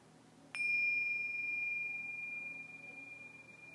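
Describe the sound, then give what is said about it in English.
A single meditation bell is struck once to begin the guided portion of a meditation practice, giving a clear metallic strike followed by a long, pure ringing tone that slowly fades over several seconds against a quiet background. “at the sound of the bells, we'll go into the guided portions of the practice.”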